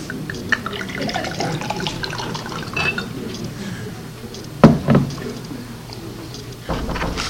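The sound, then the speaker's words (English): Water pours steadily into a glass, a continuous splashing trickle with a couple of louder knocks partway through and a brief thud near the end. “I'm just going to pour myself a glass of water.”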